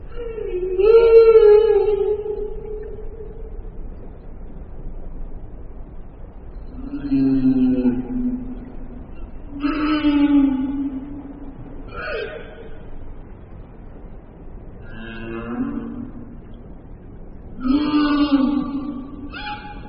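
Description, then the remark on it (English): A whale sings to attract a mate, in long, moaning tonal calls, about six drawn-out phrases with pauses between them, rising and falling in pitch. The calls are clear and fairly loud against a quiet background, with no talking. “Sings to attract a mate.”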